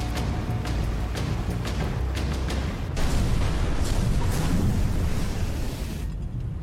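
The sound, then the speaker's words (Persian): A heavy, sustained explosive roar of a ship being hit in a minefield, with sharp cracking bursts early on, followed by a dense, rumbling blast that stays loud before cutting off abruptly near the end. “قربان اتاق کنترل انفجار گزارش میکنه حداقل یک کشتی تو میدون مین آسیب دیده.”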